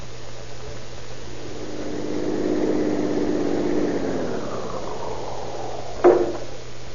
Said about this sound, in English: How did you like your first ride in the police car? Oh, I feel kind of worn out. Oh, but what punishments you fellows give a car.